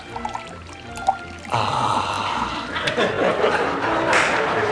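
After a brief quiet pause, water pours steadily from a water glass, a continuous splashing stream that runs for several seconds without letting up.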